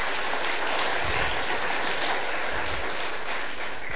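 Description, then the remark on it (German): A church audience applauds during a service to congratulate parents on the birth of their daughter, a dense, steady patter of many hands clapping throughout, with no voices heard over it. “Ich glaube, es ist ein Applaus wert.”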